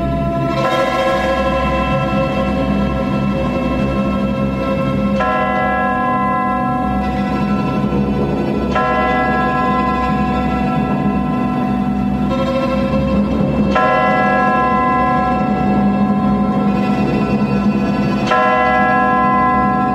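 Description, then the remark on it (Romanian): A church bell tolls loudly and steadily for a Christian burial, its strikes ringing out about every three and a half seconds with long, rich overtones that blend into a continuous resonant wash. No one speaks. “Trebuie să trag clopotul.”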